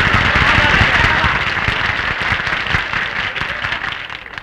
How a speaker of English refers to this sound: That's what I mean. I want to hear some kind of noise. Applaud me, folks.